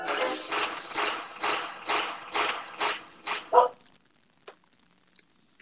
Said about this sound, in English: Just one. Just what's the sound of one dog barking? I got a petting zoo outside my apartment today. There it is.